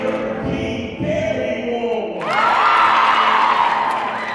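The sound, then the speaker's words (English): A large crowd in a gym at a high school volleyball match between the John Jay Jaguars and the Bronx Science Wolverines roars and cheers, with scattered whoops and shouts and a low rumble of stomping feet, swelling louder and brighter partway through and staying loud to the end. “The energy in the room is electric. Everyone is stomping and cheering.”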